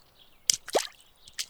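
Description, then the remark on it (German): Three or four irregular watery splashes and plops as someone wades across a river in the morning, moderately loud with quiet pauses between steps; no one speaks. “Jakob überquert den Fluss.”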